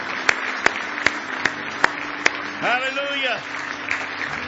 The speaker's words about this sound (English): Give Him a hand clap of praise if you love Him tonight.